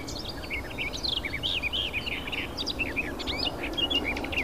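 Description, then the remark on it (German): A nightingale's high whistling song: a rapid, unbroken run of varied chirps, trills and whistles, over a steady low background rumble. “Das hohe Pfeifen der Nachtigall.”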